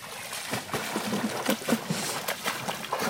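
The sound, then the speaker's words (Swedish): Busy water splashing and sloshing in quick irregular bursts as a female dog slaps the water surface with her paw and snaps at a spurting column of water coming up, with steady noisy spray underneath. “Och så ska hon som försöka fånga den vattenpelaren som kommer upp.”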